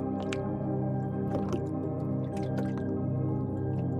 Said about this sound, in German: Du wickelst dich wieder in die Decke ein und hörst dem kaum hörbaren Plätschern zu. Es ist der beruhigende Klang eines Tages, der sich seinem Ende zuneigt.